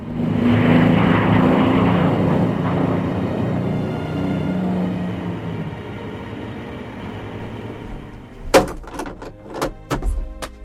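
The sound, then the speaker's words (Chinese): A loud, rumbling airplane engine drones overhead as the plane flies low over bushes in the fields, climbs and slowly fades as it disappears into the sky, followed by a few sharp knocks and clicks near the end. “那是我第一次见识到飞行时代，我从来不敢想象，在往后的日子里，为了广播事工的需要，我乘飞机飞行的里程达到200万里。”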